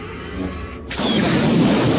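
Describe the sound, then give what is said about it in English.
A sudden, loud explosive blast as a damaged gun turret in the snow fires erupts about halfway through, cutting off a quieter rumble and filling the rest with dense, roaring noise that stays heavy to the end. “The explosion was sufficient to hurl Callista into the air.”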